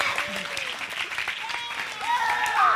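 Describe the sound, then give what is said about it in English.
An audience applauds the cast of a show as they come back to take a bow, with dense, crackling clapping mixed with scattered cheers and whoops that rise in pitch, the ovation swelling a little louder toward the end. “Let's hear it for these guys as they come back.”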